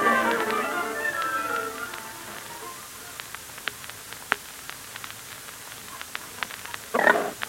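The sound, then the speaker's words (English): Pigs grunt and snuffle for the first couple of seconds, then scattered clicks and knocks follow, ending in a brief rougher burst of grunting near the end. “you can leave the pigs to me.”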